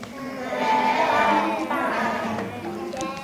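Several goats bleat together in a steady, overlapping chorus of wavering, quavering cries, fairly loud, lasting a few seconds with no talking.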